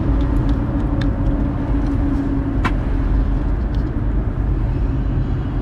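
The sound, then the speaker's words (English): Steady, heavy road traffic rumble outside a car, with a deep low drone throughout, a faint higher hum riding above it, and a few brief clicks and chirps scattered over the noise. “I love the traffic out here.”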